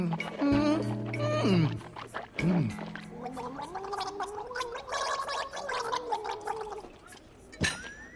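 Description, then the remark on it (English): Wet, bubbling swishing of water in a man's mouth, fairly loud, with gurgling pulses rising and falling for several seconds before a brief gasp-like exhale near the end, after he drinks from a water pitcher. “He swishes the liquid in his mouth.”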